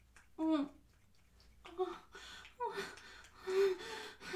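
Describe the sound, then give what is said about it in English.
A voice gasps and moans in four breathy, pitched bursts, with quieter breathing filling the short pauses between them; no words are spoken. “Oh, you want to hear me gasp and moan?”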